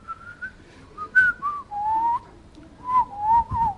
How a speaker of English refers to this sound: In fact, you will be whistling.